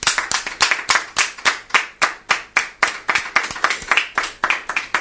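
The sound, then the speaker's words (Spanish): Steady hand clapping, a brisk series of sharp, bright claps at a fairly regular rhythm lasting the whole stretch, like a small group applauding, with no talking over it. “Un aplauso, claro que sí.”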